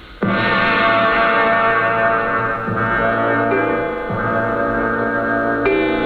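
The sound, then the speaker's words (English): A clock strikes two o'clock with deep, resonant bell strokes, each ringing out and overlapping the last in a sustained metallic hum. It is loud, with no voices. “Was that 2 o'clock that just struck?”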